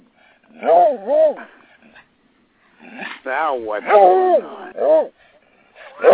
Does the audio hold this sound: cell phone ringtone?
no